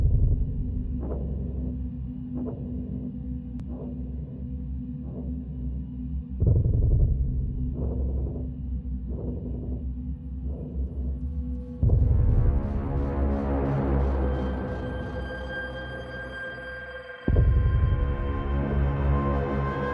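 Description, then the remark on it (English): A deep, vibrating drone in a film soundtrack holds steady throughout, first marked by soft rhythmic pulses about once a second, then swelling abruptly into a denser, brighter layer of sustained tones with no voices. “And that's what this does so cleverly, is that you hear this kind of, I mean, I'm not sure how you created it, but it's kind of got a sort of drone element to it.”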